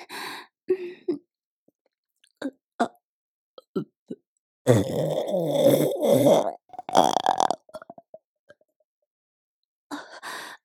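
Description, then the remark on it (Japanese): A long, loud, throaty burp rumbles for over a second, followed by a shorter second belch, with scattered small breaths and mouth sounds before and after. “ごめんなさい、ダーメンゲップ出ちゃいました。”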